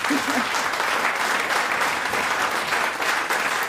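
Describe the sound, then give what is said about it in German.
An audience claps steadily for several seconds, a dense, even wash of many hands with no single claps standing out and no voices rising above it. “Der Applaus.”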